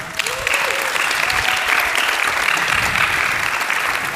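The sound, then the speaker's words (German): Sustained event audience applause after an on-stage conversation, a dense steady wash of many hands clapping at even loudness throughout, with a few faint cheers or whistles rising briefly near the start. “Ich würde wirklich sagen, das hat einen absolut nochmals riesen Applaus verdient.”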